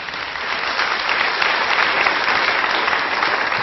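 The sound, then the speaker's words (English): Sustained audience applause for a singing performance, a dense, steady wash of many hands clapping at even loudness for several seconds, with no voices rising above it. “I have to say, you can give another round of applause.”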